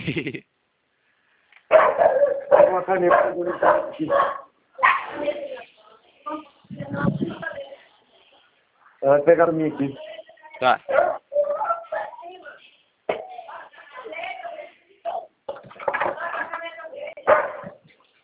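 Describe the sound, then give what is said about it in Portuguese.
Dogs bark and snarl in rough, overlapping bursts, as if scuffling, while a person speaks briefly between the outbursts. “O cachorro tá brigando aqui.”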